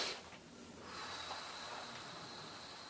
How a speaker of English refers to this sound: And one of the things I find with this is the slow breathing, slow deep. And sometimes pushing it out against your mouth like this.